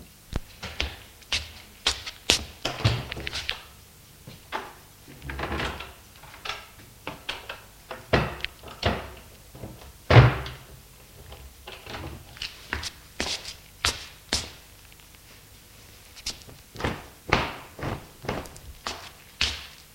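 Wardrobe doors are opened with a series of close wooden clunks, clicks and latch rattles, followed by soft handling sounds as sheets are pulled out. Nobody speaks.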